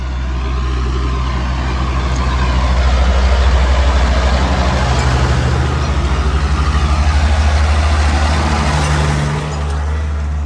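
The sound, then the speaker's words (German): Loud, continuous rumble of several cars passing on an expressway, heard while walking beside it on a pilgrimage, with recordings edited together: a deep low drone that swells gently midway and holds steady for about ten seconds, with no voices. “Man kann das sogar zusammenschneiden, hört sich das noch besser an. Also wenn mehrere Autos kommen, dann hört sich das so an.”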